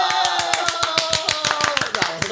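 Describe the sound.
Applause from an audience greeting a comedian and magician as he is announced on stage, with quick, sharp claps repeating in an even rhythm at full volume. A steady tonal layer of voices or music runs underneath the whole time.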